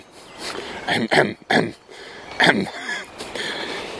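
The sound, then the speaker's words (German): A few harsh, breathy coughs burst out in quick succession, set back from the microphone against a low background hiss, then fade into quiet murmuring noise. “Na, der lustige Husten im Hintergrund ist übrigens”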